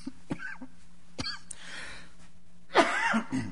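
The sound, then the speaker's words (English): A person with a lingering cough coughs: a couple of short, dry coughs early on, then a louder, harsher bout of coughing near the end, with no talking. “I apologize. I cannot get rid of this cough.”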